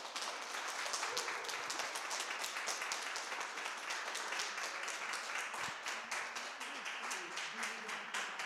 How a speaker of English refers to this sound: A big round of applause for Flora.